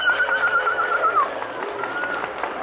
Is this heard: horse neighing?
yes